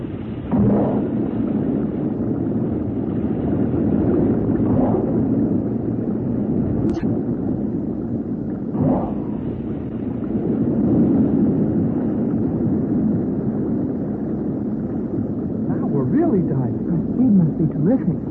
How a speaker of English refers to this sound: I will use the emergency jet. All of you must hold firmly to the arms of your steel chairs. The vibration may be sufficient to break the ship in half, but we must try it.